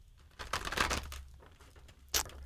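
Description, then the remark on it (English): Papery riffling of a deck of cards being shuffled: a dense flurry lasting about half a second, then quiet handling and one short, sharp snap of cards near the end. “So let me kind of look while I'm shuffling.”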